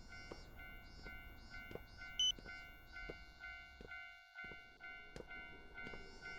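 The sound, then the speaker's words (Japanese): A train rumbles into a station with steady tonal hums and rhythmic clatter, a brief electronic beep partway through, and a sharp squeal near the end as it slows. “あ、電車これちょうど来るんじゃない？”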